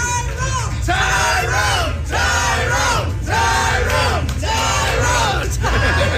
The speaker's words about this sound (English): But you lost. Why are we cheering? We should be booing.